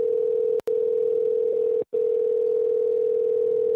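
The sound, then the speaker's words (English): A loud, steady telephone dial tone of an outgoing call-back hums continuously, interrupted by two very brief dropouts, with no voices present. “So I call back, and this is what happens.”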